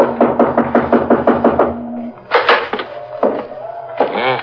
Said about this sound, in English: I guess we knock. It's polite.